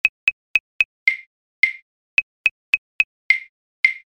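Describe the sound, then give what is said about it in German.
Light dripping like rain: two sets of crisp drip sounds, each four quick, even ticks followed by two longer plops that ring briefly. No talking, and silence between the drips. “Es tröpfelt.”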